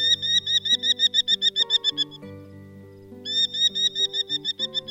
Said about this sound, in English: Hear that? That's our bird of the month for June, the Merlin. They are small raptors about the size of a pigeon, sometimes called a pigeonhawk.